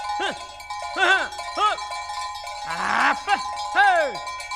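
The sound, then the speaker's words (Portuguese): An old ox lows in a few short, arching calls, one rougher and longer near the end, with a cowbell clanking steadily throughout, fairly loud, no talking. “Basta pra lá, boi velho encaretado!”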